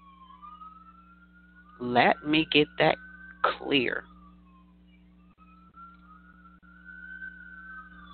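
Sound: emergency vehicle sirens outside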